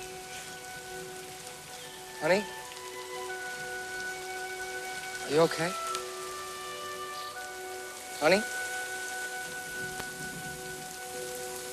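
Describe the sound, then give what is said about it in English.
Steady rain falls outside on a house patio, pattering on a hard surface throughout, a dense continuous hiss, while a voice calls out three times over it and faint sustained tones hum in the background. “I'm standing out in the rain ringing the bell for 15 minutes.”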